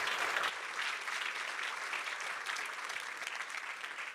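An audience claps steadily, a dense, even wash of many hands with no voices, holding a constant level from start to finish.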